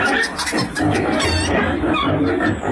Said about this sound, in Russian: Но тут подоспели куры во главе с хромой Лотой посмотреть, чем это лакомится петух.